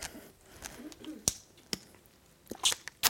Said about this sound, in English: I'm just going to have a drink.